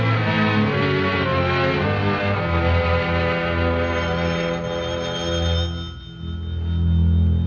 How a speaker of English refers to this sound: Now that eternal telephone again. Maybe it's the Navy calling to confirm airplane transportation.